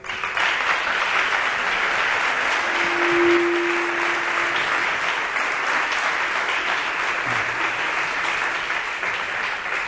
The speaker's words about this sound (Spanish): Yo creo que también merecen un fuerte y caluroso aplauso de la sala.